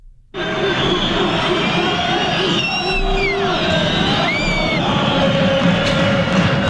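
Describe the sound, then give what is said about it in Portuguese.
The crowd at La Romareda stadium in Spain roars steadily while many voices make monkey noises to destabilize Nigerian goalkeeper Carlos Kameni, with rising and falling hooting cries standing out above the dense, continuous din. “O público está a reproduzir sons de macaco para destabilizar o guarda-redes nigeriano Carlos Kameni.”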